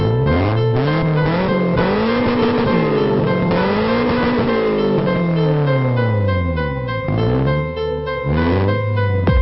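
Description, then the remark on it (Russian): A loud twin-turbo race car engine revs hard again and again to 7000 rpm, its pitch sweeping up and dropping in repeated arcs, with a brief tire squeal suggested amid the steady roar and no voices. “твинтурбо разрывает воздух 7000 оборотов”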